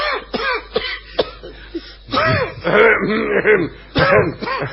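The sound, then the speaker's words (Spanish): Someone with a bad cough coughs and clears their throat repeatedly in a series of harsh, irregular bursts, with strained, moaning vocal sounds between the coughs. “Escucho ruido. Soy yo que tengo mucha tos. ¡Ay, está tos!”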